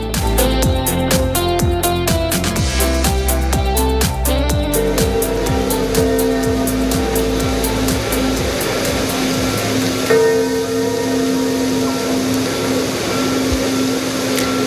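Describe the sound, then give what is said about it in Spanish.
The bells of St Peter's Basilica in Rome toll loudly, announcing the death of Pope Francis, with rapid overlapping strikes early on that blend into a dense, sustained wash of ringing tones and a steady low hum. No one speaks. “Y arrancamos la tarde con este sonido, el sonido de las campanas de la Basílica de San Pedro en Roma, que esta mañana anunciaban así al mundo que el Papa Francisco ha muerto.”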